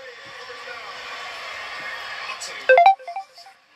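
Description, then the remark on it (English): A phone ringtone, not set to vibrate, plays a quick, loud sequence of several bright melodic tones, cutting in after a steady background of crowd noise and chatter. “Oh, shot. I forgot to put my vibrate on.”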